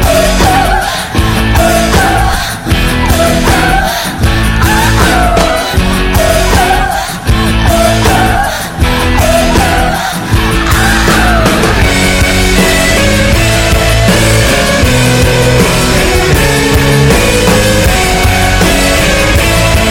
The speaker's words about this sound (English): I think probably half the album is kind of up-tempo, a lot of yelling, very loud.